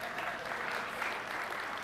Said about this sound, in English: I think that was the Mesosphere's guys clapping.